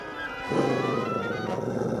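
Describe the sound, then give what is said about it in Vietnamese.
A dog named Lu growls low and steadily, the throaty rumble starting after a brief moment and holding continuously to the end, with no speech. “Một lát sau, Danh bỗng nghe tiếng gầm gừ của con chó lu.”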